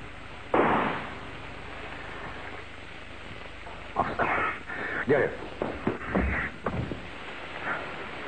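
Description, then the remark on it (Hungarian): A single sharp gunshot, fired at a woman, cracks out early, loud, its echo fading into a noisy hiss, followed by several seconds of people talking. “Lövés halott.”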